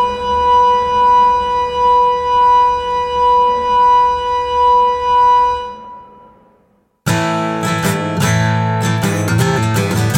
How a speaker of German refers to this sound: Als er unsere beiden Abenteurer erreichte, erklang ein sehr lauter und langgezogener Ton aus der Pfeife, die die beiden in ihren Händen hielten.